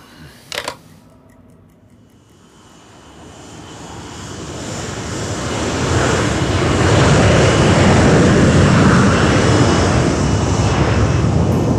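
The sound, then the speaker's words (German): An airplane engine roars as the plane powers up and lifts off, heard from a window seat on board: a brief click at the start, then a broad, rumbling noise swelling steadily louder and holding at full thrust. “So kam es, dass ich am späten Donnerstagvormittag nervös auf einem sündhaft teuren Fensterplatz hockte, während mein Flugzeug sich dröhnend in die Luft erhob.”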